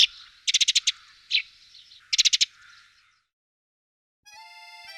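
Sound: sparrow chirping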